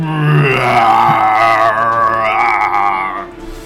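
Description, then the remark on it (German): A black bear roars from the bushes in one long, loud, sustained bellow lasting a few seconds, its rough, tonal growl wavering and rising slightly before trailing off, with no talking over it. “Das lockt nicht nur Wölfe an, sondern ihr hört jetzt aus dem Hintergrund, aus dem Gebüsch, ein ohrenbetäubendes Brüllen.”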